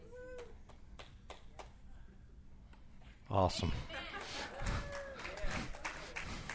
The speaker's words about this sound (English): Thank you. I'm glad we got that one little clap back there in the back.